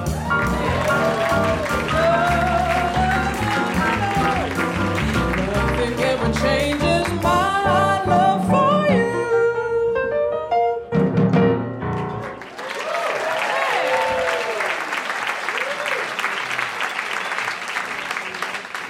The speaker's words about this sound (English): Give yourselves a round of applause.